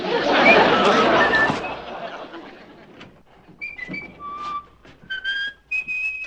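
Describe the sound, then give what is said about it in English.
After a burst of noisy background chatter fades, someone whistles a song, a string of clear sustained notes stepping up and down in pitch with short pauses between phrases. “Darling, what's the name of that song you are whistling?”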